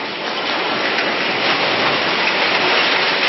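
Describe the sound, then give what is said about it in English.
Heavy rain pours down in a steady, dense roar of hiss and patter during a thunderstorm at a Hindu religious gathering under a large tent in Rajasthan, India, loud and unbroken throughout, with no voices and no distinct thunder claps. “India's northwestern state of Rajasthan were gathered on Sunday for a Hindu religious event that took place during heavy rain and a thunderstorm.”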